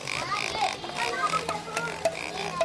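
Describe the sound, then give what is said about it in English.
A mechanical, tail-wagging toy pig oinks repeatedly in short, squeaky electronic grunts in a toy store in Johannesburg, set against a busy, noisy indoor background with a few sharp clicks. “An oinking, tail-wagging pig and a wide-eyed plastic soldier beating a drum compete for children's attention as they race into a toy store in Johannesburg.”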